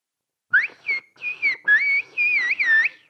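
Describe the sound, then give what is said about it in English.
A whistled phrase of Turkish whistle language meaning 'we speak whistle language' (İslik dili konuşuyoruz): a string of loud, sliding whistles with rising and falling pitch, broken into short bursts with brief pauses, no talking. “And how about, we speak whistle language.”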